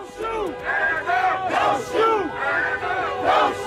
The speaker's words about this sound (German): Langsam fahren die Autos die Hauptstraße in Ferguson auf und ab. Die Fahrer hupen, die Leute am Straßenrand skandieren: «Hands up, don't shoot», Hände hoch, nicht schießen.